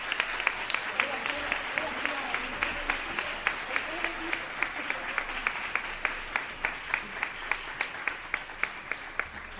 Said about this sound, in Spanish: Pido también un aplauso a modo de reconocimiento por su labor.